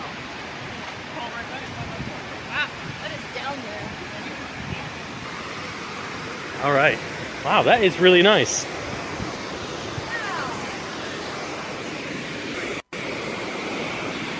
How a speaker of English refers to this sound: This is the hydroelectric dam. Can you hear the power?